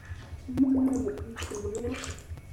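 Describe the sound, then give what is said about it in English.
A child talks underwater in a bath, a bubbly, voiced warble lasting a couple of seconds, with splashy water noise around it and no clear words. “I can talk underwater.”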